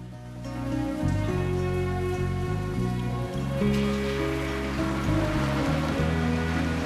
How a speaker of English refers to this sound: In torrential rain, without a coat,